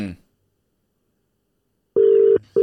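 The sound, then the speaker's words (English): A phone's ringing tone sounds while the call goes unanswered: two steady mid-pitched electronic bursts in quick succession after a silent pause, with a brief fragment of voice at the very start. “Pick up, bro. He ain't gonna pick up.”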